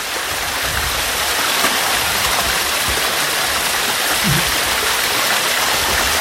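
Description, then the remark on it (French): A waterfall in a nature park roars in a steady, dense wash of rushing water, loud and continuous with no pauses, filling the whole clip without any voices. “ça c'est une cascade dans un parc naturel qu'ils ont traversé.”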